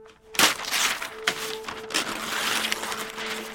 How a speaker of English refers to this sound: She's brought with her a large roll of white paper, and she rips off big sheets of it to put underneath pieces of evidence to catch any dirt or dust that falls off.